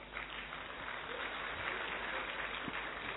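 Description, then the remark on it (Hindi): A crowd at Pandav Bhavan claps steadily and densely, a continuous wash of many hands applauding with no pauses and no voices on top. “आज रात दादी जी पांडव भवन में रहेंगी, और ताली बजाओ।”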